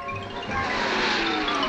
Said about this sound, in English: Whoa, little Tex! Whoa! That sounds like Uncle Tex's car.